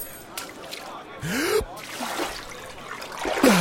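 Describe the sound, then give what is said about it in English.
Keys are thrown into a tub of water where a person is bathing, making a brief watery burst, followed by softer trickling and a second splash near the end, along with breathy gasping sounds. “Throw your keys in here and I'll dive down and get them.”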